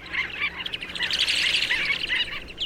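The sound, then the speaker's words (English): A dense chorus of many shorebirds flying together in a loose cluster and calling at once, high overlapping chirps and peeps blending into a continuous chattering wash, steady, with no voices. “Lots of shorebirds flying together in a loose, three-dimensional cloud.”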